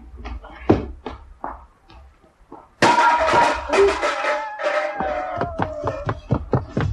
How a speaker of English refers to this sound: It sounded to me more like a can. It was a can, placed outside the door of number one.